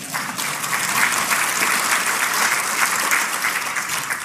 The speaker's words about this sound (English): I think that needs a round of applause.